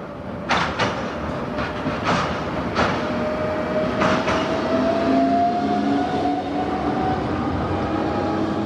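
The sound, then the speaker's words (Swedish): A tram rolls past on its tracks at Olskroken in Gothenburg, Sweden, wheels knocking over rail joints in irregular clacks while a rising electric whine builds beneath a steady rumble. It is fairly loud, with no voices. “Emma bor väldigt nära spårvagnen vid Olskroken i Göteborg.”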